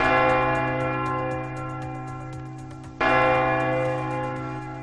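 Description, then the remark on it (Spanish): A church bell strikes twice, each heavy chime ringing out with a long, humming decay; the second blow lands about three seconds after the first. No one speaks. “Sí, son las campanadas.”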